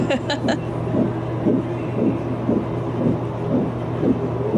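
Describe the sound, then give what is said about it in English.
A fast, steady fetal heartbeat from an ultrasound, as heard in a video of the scan: rhythmic muffled whooshing pulses, about two to three per second, over a constant low electronic hum, fairly loud. “So I sent him a video of the heartbeat and like whatever. Yeah, this is what it sounded like in the video.”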